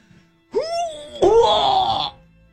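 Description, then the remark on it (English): A voice imitates the barbaric yell of someone lifting puppy chow into their Explorer: a rising strained groan, then a louder, harsher sustained roar, about a second and a half of bellowing in all. “When all of a sudden you screamed a barbaric yell as you lifted with your tree trunk legs and cleaved the puppy chow into your car.”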